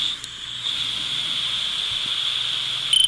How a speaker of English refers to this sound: So there's that creek. Oh, yeah. You must have been near running water.